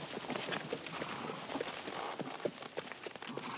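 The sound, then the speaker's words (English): Horse hooves clip-clop in a steady rhythm as a rider sits on horseback surrounded by torch-carrying vigilantes, sharp knocks repeating over a dense, noisy background, moderately loud throughout. “Shortly after, he's back on his horse surrounded by torch-carrying vigilantes.”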